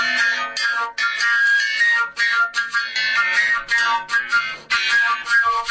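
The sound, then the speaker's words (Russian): A scythe, used as a metallic percussion instrument in a family ensemble, rings out with bright overlapping tones shimmering steadily with a series of fresh strikes, loud and continuous, with no voices. “Вот у нас еще такой инструмент есть, как коса.”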